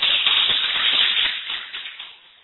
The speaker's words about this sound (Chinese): 哎，我们请各位掌声欢迎。